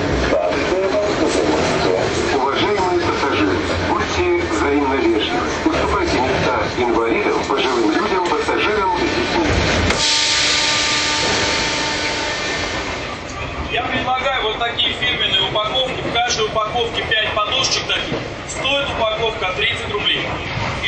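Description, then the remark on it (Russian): A Moscow Metro train runs between Kolomenskaya and Avtozavodskaya stations at 11:20 in the morning: a loud, steady rumble and rattle of wheels on track, with a rising whine partway through and muffled voices beneath the din. “Московский метрополитен, 11:20 утра. Перегон между станциями Коломенская и Автозаводская.”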